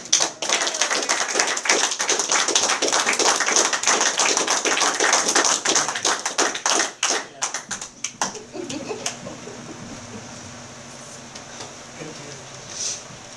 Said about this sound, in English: I'll just have another round of applause for this.